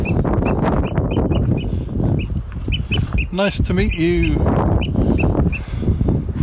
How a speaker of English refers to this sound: I don't know what was up with that bird. He was speaking the wrong language. That bird was not happy about something.